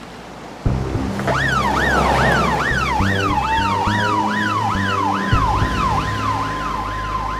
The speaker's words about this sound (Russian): Примерно через полчаса где-то рядом с воем промчалась машина скорой помощи.